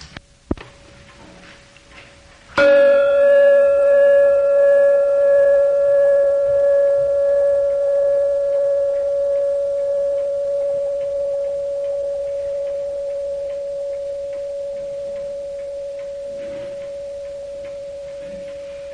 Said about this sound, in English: This is the baby bell, the replica of the big one that was sent with Peter Townsend when he came on the last Amartithi.